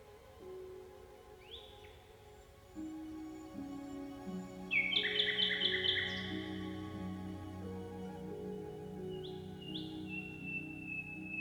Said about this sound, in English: I think night can be a really lonely time, and there is something really special about walking around and then just hearing this bird call. It's sort of reassuring in a way. Just to have something singing in the darkness is pretty profound.